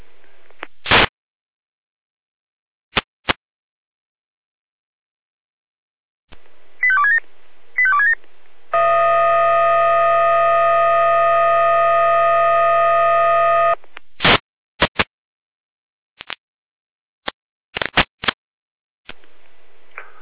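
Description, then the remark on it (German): Radio alarm tones for a fire brigade dispatch from Jena, calling out units for a tree fallen across road K207 near Waldeck: a few short beeping tones, then a steady buzzing tone lasting about five seconds, framed by sharp crackling bursts of static. No voices. “Altstelle hier, mit Alarmruf.”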